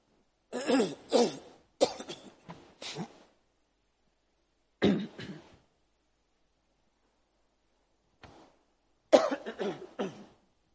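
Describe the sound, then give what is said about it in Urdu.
Repeated coughing fits from a speaker giving a talk on Surah Fatir of the Quran: a few harsh coughs in quick succession, a pause, a single cough, a faint short one, then another burst of several coughs, with silence between and no talking. “جی, اس کھانسی پر آپ سے معذرت ہے, کیونکہ اس کا اثر سننے والوں کے کانوں پر پڑتا ہے.”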